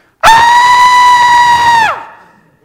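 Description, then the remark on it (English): A voice imitates the shriek meant by the biblical word 'cry': one loud, high-pitched scream held at a steady pitch for well over a second, then breaking off with a quick downward slide. “It is the little word of a shriek or a violent scream. It would be sort of like this.”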